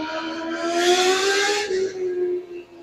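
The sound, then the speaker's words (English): A sport motorcycle roars past, its engine a steady high-revving harmonic drone that swells loudly with a hiss of rushing noise around the midpoint, then fades as it pulls away. “Another motorcycle, if you didn't hear.”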